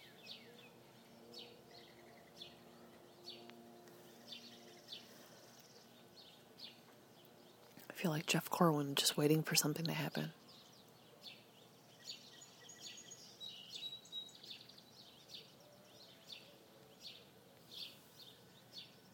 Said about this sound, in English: This is like the Sunday morning news show, and all you can hear is the birds. And every time I turn it off to pause, the chickens and the roosters cluck.